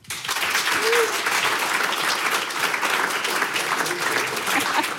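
Steady applause from an audience fills the space, a dense crackle of many hands clapping at even loudness for several seconds without letting up.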